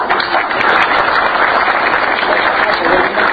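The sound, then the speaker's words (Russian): Steady, dense applause from a crowd, a continuous wash of many hands clapping at an even loudness for the whole stretch, with no voices standing out. “Я вижу ваших аплодисментов, я вижу ваше единогласное согласие продолжить эту работу.”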